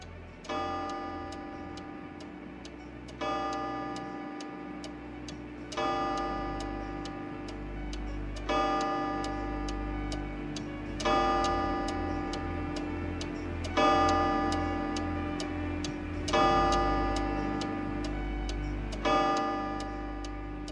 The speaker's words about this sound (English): staring at the clock on the mantelpiece. The ticking seemed louder than usual, each sound dragging on interminably.